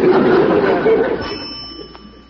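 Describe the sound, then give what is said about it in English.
One brief, light ring of a house doorbell, rung once by an arriving visitor, chimes and fades away, following a moment of indistinct background murmur. “when Stanley comes, all you hear is one teeny pipsqueak ring”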